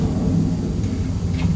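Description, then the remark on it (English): A continuous deep roar of an aeroplane flying overhead, a steady, loud, low-pitched rumble that holds evenly throughout with no voices. “I can hear something that sounds like an aeroplane.”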